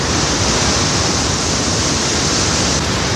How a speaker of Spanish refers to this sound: Ha pasado en varias ocasiones en los últimos años y las mareas vivas se juntan con un temporal, el océano intenta comerse la ciudad. Las olas tratan de recuperar aquel terreno que un día fue suyo y que sienten que les pertenece.